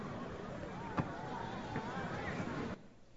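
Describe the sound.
A dense, steady murmur of many overlapping voices from a crowd at the Western Wall in Jerusalem, broken by a couple of sharp knocks, then cutting off abruptly just before the end.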